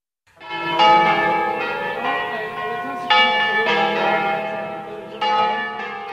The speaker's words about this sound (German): Es ist Sonntag, der 25. März. Die Glocken auf Madonna del Sasso rufen zum Festgottesdienst.